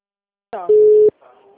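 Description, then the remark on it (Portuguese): A single steady, mid-pitched telephone ringing tone sounds loudly on the line for under half a second, with a voice just before it and faint talking after. “Tá tocando aí, ó.”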